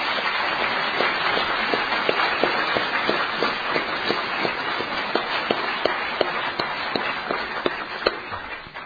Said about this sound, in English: And our speakers represent in their own way the diversity of the heart of Alcoholics Anonymous. I think we should give them another round of applause.